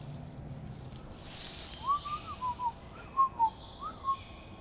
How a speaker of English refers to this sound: They're so frantic, these birds. I'm just like, come on, guys, this way. They're so little, too.